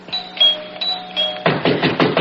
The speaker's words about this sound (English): Finally. Why must he pound on the door?